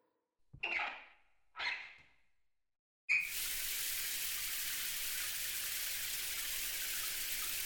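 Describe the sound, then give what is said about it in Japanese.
Two short knocks or squeaks of handling, then a moment of quiet before shower water bursts on suddenly and keeps running as a steady, loud, hissing spray to the end. “じゃあ、シャワー浴びよ。”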